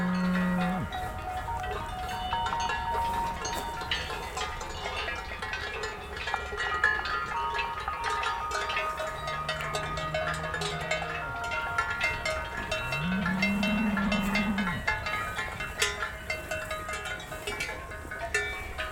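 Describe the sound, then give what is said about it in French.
A herd of about 200 to 300 Gascon cows mixed with horses moves back up onto the mountain ridges, with constant clanking cowbells ringing at many pitches and several low, drawn-out moos rising from the animals. “Tout le troupeau de vaches gasconnes mélangées avec des chevaux remonte sur les crêtes.”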